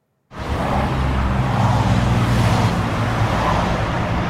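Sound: passing traffic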